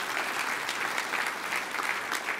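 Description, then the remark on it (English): A crowd applauds steadily for the Zig Ziglar Corporation, a strategic sponsor: a dense, continuous patter of many hands clapping at once, sustained and fairly loud throughout without any voices standing out. “Give them a big hand clap, the Ziglar Corporation.”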